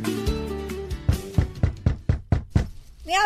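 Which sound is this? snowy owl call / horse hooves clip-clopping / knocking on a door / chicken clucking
knocking on a door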